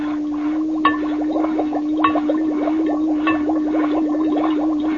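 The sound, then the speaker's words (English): Three sharp taps on glass, about a second apart, ring out over a steady low hum and a rapid bubbling, pulsing gurgle. No one speaks. “Tap on the glass.”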